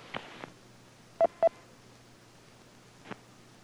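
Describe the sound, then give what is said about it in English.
Two loud, short DTMF touch-tone beeps of a phone number dialed through an amateur radio repeater's phone patch, in quick succession, with a few fainter tone blips before and after over a steady low hum; no one speaks. “Let me check the last number dialed through the patch.”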